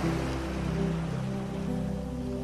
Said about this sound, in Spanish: el sonido de las olas como si fuesen una suave música que te arropa.